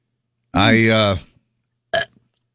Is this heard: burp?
yes